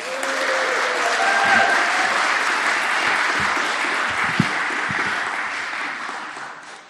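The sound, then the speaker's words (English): A room full of people at a Vineyard morning gathering claps steadily and warmly for several seconds to welcome a guest preacher, a dense sustained wash of applause that swells slightly and then tapers, with a few faint voices mixed in. “Would you like to give him a warm Vineyard welcome?”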